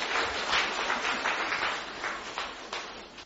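A crowd applauds steadily, many hands clapping in a dense, even patter that holds for a few seconds before easing off slightly at the end. No one speaks over it.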